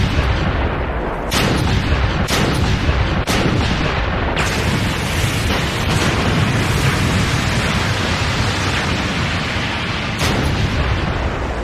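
Heavy cannon fire from a ship during a pirate attack booms again and again over a dense, roaring wash of battle noise, with several sharp, loud blasts punctuating the rumble. No one speaks.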